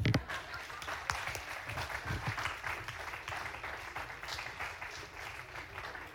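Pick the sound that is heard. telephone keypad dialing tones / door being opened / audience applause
audience applause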